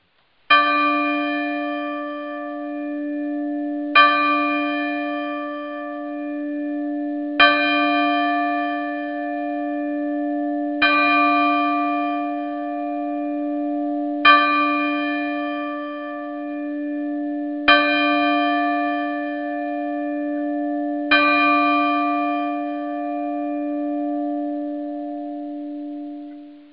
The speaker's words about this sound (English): I don't have the Liberty Bell. The best I've got is a temple bell. So I'm going to play that